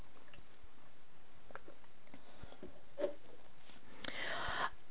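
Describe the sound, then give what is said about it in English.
Someone takes a sip of water: a soft wet click, then a brief slurping swallow near the end, quiet against faint background noise with no talking. “I'm going to take a drink of water.”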